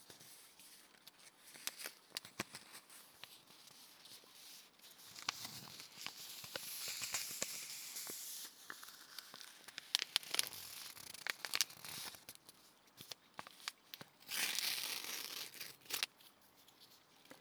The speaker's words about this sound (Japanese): 紅茶をポットで蒸らしている間は、違う種類の紅茶、今度はティーバッグタイプのお紅茶を。紙とこのティーバッグの素材の音、いい音ですよね。